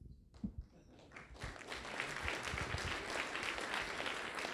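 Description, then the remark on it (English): An audience breaks into applause after Senator Lee talks about getting rid of Chevron deference, starting with a few scattered claps and swelling into steady, sustained clapping from a crowd that holds at full volume. “It's the one audience in America where I can talk about Chevron deference and it brings applause.”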